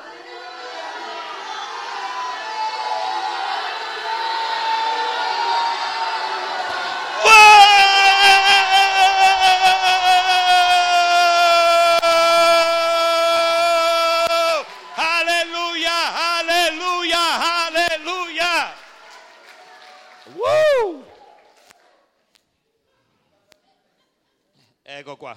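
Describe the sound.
A crowd roars, then voices shout a long, sustained "alleluia" that breaks into a series of loud, wavering calls, ending with one rising and falling shout.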